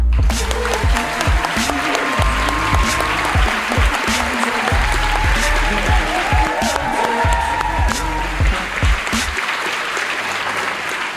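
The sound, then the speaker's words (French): A crowd applauds warmly and steadily for about eleven seconds to welcome Manu Payet, who played his show at this venue for several months. Dense clapping with faint cheers and whoops rising over it, loud throughout before easing slightly at the end. “Merci d'applaudir chaleureusement quelqu'un qui a joué son spectacle ici plusieurs mois, mesdames et messieurs, Manu Payet.”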